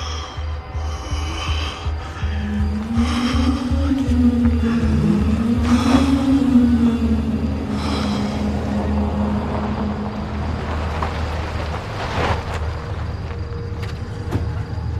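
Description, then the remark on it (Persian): A car engine rumbles steadily, its pitch rising and falling as the vehicle pulls in and revs, with a low throbbing drone throughout. “آقا ماشین بیار اینجا.”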